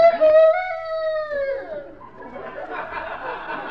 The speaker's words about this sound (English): Say, lady, where's that rooster? I hear him, but I don't see him. Oh, that isn't really a rooster. It's a record we play over the public address system just to keep the hens alert.